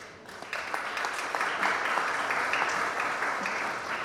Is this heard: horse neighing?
no